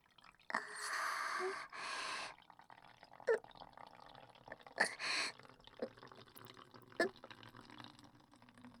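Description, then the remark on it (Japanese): Someone urinating while standing for the first time: a loud hissing stream of liquid for about two seconds with a brief break, followed by scattered drips and small splashes that trail off. “立ちション、初体験だからちょっと緊張しちゃう。”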